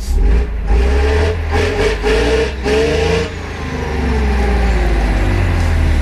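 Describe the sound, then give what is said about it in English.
A Chieftain tank's heavy engine revs loudly as it runs over a Nissan Micra car, its deep rumble rising and falling in pitch, with bursts of harsh, gritty noise in the first few seconds before settling into a steady drone. “So that's what happened when Joe Wiley ran over my car with a Chieftain tank.”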